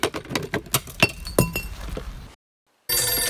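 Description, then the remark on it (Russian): A run of sharp clinks and clatters, like glass or metal being knocked about, falls into a brief silence before a loud, steady telephone ring starts up. “Доебали со своими телефонами, катчеры, прачеры, блядь.”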